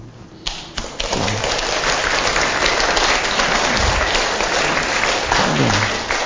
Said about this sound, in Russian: Ну, если вы так хлопаете, я вам сейчас еще что-нибудь прочитаю под конец из этой темы.